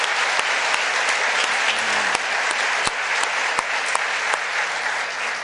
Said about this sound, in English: If you are a Christ follower, could we bang our hands together to encourage these couple of people that raised their hands?